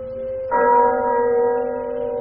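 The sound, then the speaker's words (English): A single clock bell strike rings out after a brief low hum, chiming a quarter past the hour, its rich metallic tone sustaining steadily and fading only slightly, heard clearly with no voices. “A quarter past.”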